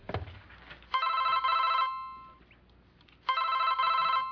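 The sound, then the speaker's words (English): A telephone rings in two long bursts of rapid, high-pitched electronic trilling separated by a pause of quiet; no one speaks. “I must have pushed the wrong button on my phone.”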